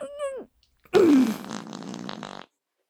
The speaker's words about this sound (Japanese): ダメですよ、絶対嗅いちゃダメ。シスター様のくっさいおなら嗅いじゃいや。ダメ、おなら止まんない。おならがバーン。